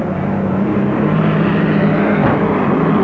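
A loud, continuous roar of racing boat engines, dense and throaty, holding steady at full power as the boats, including the Budweiser, Murr's Special and lead boat Vance PX, thunder by at the start of a race, throwing rooster tails. No voices.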